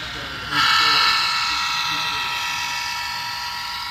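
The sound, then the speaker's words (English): A freight train, a banana train carrying fresh produce from Florida up to Canada, passes, its loud, steady metallic roar and hiss cutting in abruptly and holding on, with faint voices murmuring underneath. “That's a banana train.”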